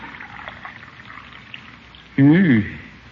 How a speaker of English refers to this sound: Let me pour your coffee